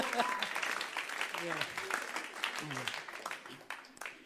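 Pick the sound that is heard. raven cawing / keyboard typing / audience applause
audience applause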